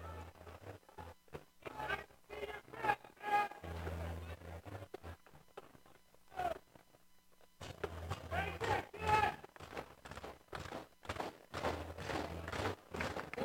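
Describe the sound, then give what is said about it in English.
Rhythmic thumping of many feet stomping in the grandstands at Witter Field during a baseball game, a steady pounding din through the crowd, loud, with a broadcaster talking over it. “Got some stomping here in the grandstands as well.”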